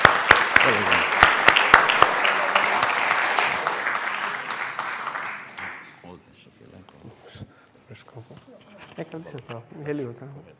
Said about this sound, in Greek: Καλωσορίζουμε λοιπόν τους αδελφούς μας με ένα θερμό χειροκρότημα.